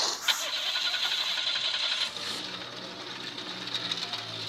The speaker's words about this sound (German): Ein Auto mit kaputten Auspuff. Davon fahren nicht viele durch die Gegend.